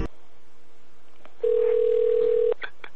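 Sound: phone call ringing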